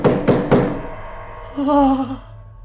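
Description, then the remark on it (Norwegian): Three heavy, dull thuds strike a door in quick, even succession, fairly loud, followed by a short wavering groan-like vocal sound. “En dør? Kanskje dette er veien ut? Kanskje det er døren?”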